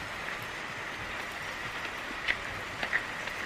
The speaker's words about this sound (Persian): فرشاد همسر تهمینه در سن جوانی توی کوچه زیر بارون ایستاده و سیگار میکشه. تهمینه خیس از بارون توی کوچه میاد.